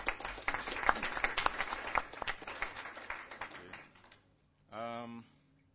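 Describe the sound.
An AFRINIC audience applauds a board member for his contribution to the board, with dense, steady clapping for about four seconds, then it fades out and a single voice briefly speaks.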